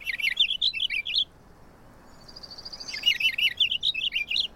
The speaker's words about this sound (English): Compared with house finch songs, purple finch songs are faster and roll along smoothly as a brisk series of warbled phrases.